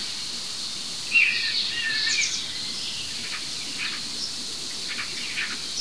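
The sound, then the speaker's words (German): A starling mimics a common buzzard's mewing, descending call once near the start, followed by a few soft chirps, all set against a steady high insect-like hiss outdoors. “Aber diese anderen drei Vögel vorher, alles unser guter Star.”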